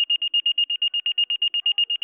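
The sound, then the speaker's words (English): Fire station dispatch alert tones: a rapid, steady series of high-pitched electronic beeps, about ten per second, loud, with no voices over them, dispatching stations 14 and 16 to a working residential structure fire. “The tones sound, and the dispatcher announces, Stations 14 and 16, working residential structure.”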